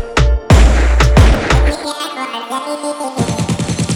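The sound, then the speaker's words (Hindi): A rapid burst of gunfire sound effect in a song, several loud shots cracking in quick succession, followed by a ringing tail and then a pulsing rhythmic beat underneath. “इनकी बट जाएगी सुन के गोलियां के साउंड।”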